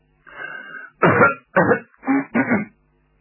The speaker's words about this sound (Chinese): 张作霖站起身来，先清清嗓子